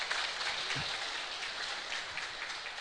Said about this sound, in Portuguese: quero uma salva de palmas para ele, se possível.